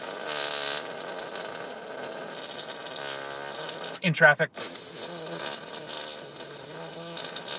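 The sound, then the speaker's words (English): A voice briefly blows a loud, sputtering raspberry imitating a fart, one short burst of about half a second, with talking before and after over steady background noise. “Let's make fart noises.”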